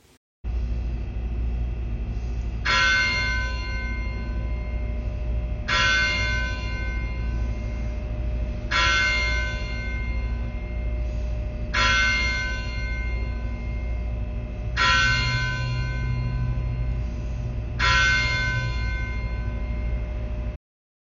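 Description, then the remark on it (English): The church bell of Christ Church tolls six slow, evenly spaced strikes at 6 p.m. before a Compline service, each ringing out and fading before the next, over a steady low background rumble. No one speaks. “The service began at 6 o'clock p.m., after the tolling of the church bell.”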